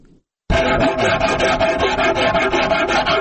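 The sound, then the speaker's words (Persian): A rasp scrapes steadily across the wood of a rubab, a local Afghan musical instrument, being polished in Herat, Afghanistan, in quick, even back-and-forth strokes, a loud, gritty, continuous rasping that starts abruptly after a brief pause, with no one speaking. “سرگرم سیقل کردن ربابش است.”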